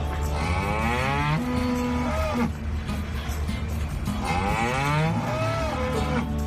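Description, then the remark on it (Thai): A dairy cow moos loudly twice, each long, rising-and-falling bellow lasting a couple of seconds, with no talking. “วัวนมนั้นก็ต้องการการสื่อสารและปฏิสัมพันธ์กับมนุษย์เช่นกันครับ”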